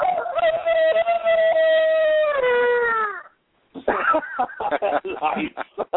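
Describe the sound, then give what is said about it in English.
A man, asked to crow, imitates a rooster's crow with one long, loud, sustained call that wavers and drops in pitch at the end, then after a short pause people talk and laugh. “Oh, you want me to crow for you? Yes, we want a crow.”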